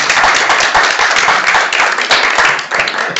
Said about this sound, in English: Are you cheering because you're surprised she made it that long? Or are you cheering because you thank me?